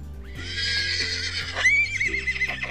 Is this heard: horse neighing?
yes